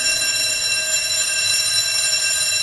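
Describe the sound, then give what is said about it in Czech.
A corridor bell at a school in Bojkovice, Czech Republic, founded by the Czech Congregation of Dominican Sisters, rings continuously for the whole stretch, a steady, bright metallic buzzing tone that never pauses, fairly loud, with no voices. “Škola je plná a zvonek na chodbě nepřeslechnete.”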